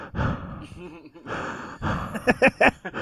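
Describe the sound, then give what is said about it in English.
A voice imitates the heavy breathing heard while watching a show, with loud, airy huffs and sighs, ending in a quick run of rhythmic panting bursts. “And at first, because we usually watch it on Discord, I'm like, damn, is this man just breathing heavy?”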